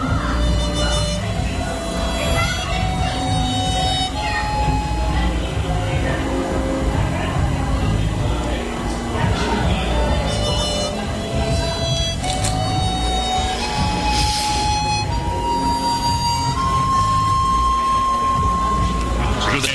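A train rumbles steadily along the rails, its motor whine climbing in stepped pitches as it picks up speed, loud throughout with a constant low clatter.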